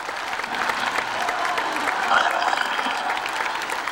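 A large crowd of several thousand people cheers and applauds in St. Peter's Square, hoping Pope John Paul II would speak to them; a dense, continuous wash of clapping and voices that swells slightly midway, with an open-air feel.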